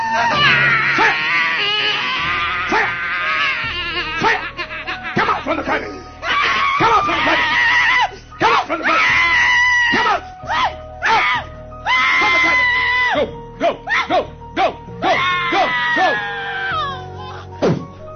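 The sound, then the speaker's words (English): A woman screams and wails in loud, high-pitched bursts as a man sprays her, breaking off and starting again over and over with short gasping pauses between the cries. “And then he sprays in the area of her vagina, and she starts screaming because obviously the demon's burning in her vagina, oh, right?”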